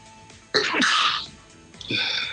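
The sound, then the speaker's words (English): A sudden, sharp sneeze bursts out, a single explosive burst with a breathy tail, followed by a second softer burst of noise; nobody speaks. “Bless you.”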